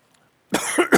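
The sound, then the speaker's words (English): A harsh coughing fit erupts after a moment of quiet: several rough, rapid coughs in quick succession, loud and spluttering, from a man who swallowed wrong. “I swallowed wrong.”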